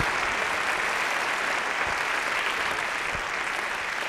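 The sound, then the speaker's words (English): An audience gives the local radio stations, television and newspapers a round of applause, a dense, even wash of many hands clapping at once that holds at a strong, constant level throughout without fading or building. “Let's give the radio stations and local television and newspapers a big round of applause.”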